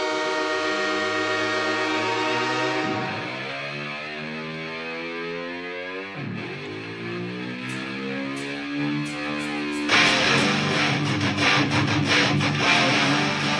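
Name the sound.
approaching train with horn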